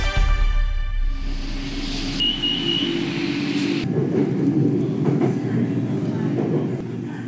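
An elevated Bangkok Transport System train in Bangkok, Thailand, rumbles past on its track 10 metres above the roads and sidewalks, with a rising electric motor whine, a brief high squeal, then steady rolling noise and rattling for several seconds.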